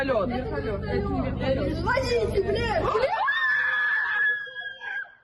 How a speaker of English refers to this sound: Yeah, gotta love the screaming, baby. And there you can see it. It looks like the Russian Ka-52 actually went over and shot down a freaking Ukrainian drone over the top of Moscow.